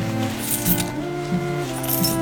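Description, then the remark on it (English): Several small metallic clinks and jingles in quick succession, coins being handed over and clinking together, over a low background hum, with no one speaking. “Take your coins.”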